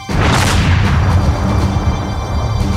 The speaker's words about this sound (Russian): Именно поэтому еще на этапе создания самолет подвергают самым жестким нагрузкам. Вот, например, стрельба из пушки.